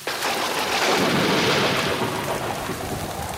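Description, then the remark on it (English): Heavy rain pours down in a steady, dense, loud hiss, with a low rumbling undertone like thunder running beneath it the whole time. “The drizzle turned into a downpour.”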